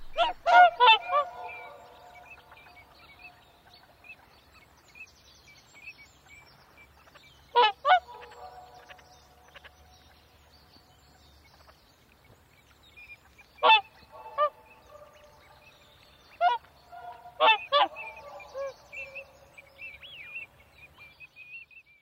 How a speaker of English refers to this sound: something that breaks up the rhythm of the vocables with overlapping voices, relating the sounds in the songs back to the sounds of the swans. We listen to Jeff's recording made by Almore Loch in the Borders. The sound reverberates across the water.